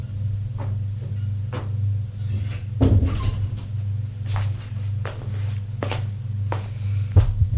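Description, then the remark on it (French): A door opens and shuts with a solid clunk as a man enters a room on the first floor, followed by a series of steady footsteps over a constant low electrical hum, then another thump near the end. “Il entre.”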